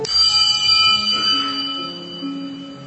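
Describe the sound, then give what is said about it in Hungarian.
A small hand bell, rung by an angry old gentleman to summon his servant, rings with bright metallic tones shimmering and lingering for a few seconds as the ringing shifts slightly in pitch before fading gradually. “És az inasért csengetett, hogy rögtön vigyen haza.”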